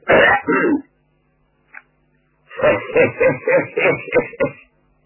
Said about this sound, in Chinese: 到了关键时刻是一个不剩，张作霖喊人都到齐了，先清了清嗓子。